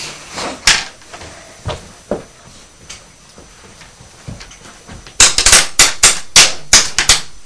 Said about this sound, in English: It needs a bit more hammering just there.